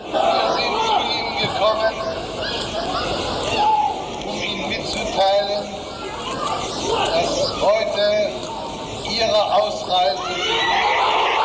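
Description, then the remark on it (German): A large crowd at an embassy cheers and roars loudly and continuously as the West German foreign minister speaks from the embassy balcony on 30 September 1989. The sustained noise swells and surges throughout, with his voice barely discernible underneath the din. “Tja, der Rest ist dann im Jubel untergegangen.”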